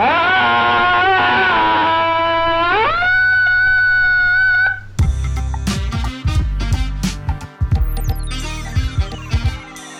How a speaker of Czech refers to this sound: A Island sbírá řev lidí frustrovaných z koronaviru. Ten následně pouští na 7 odlehlých místech z reproduktorů.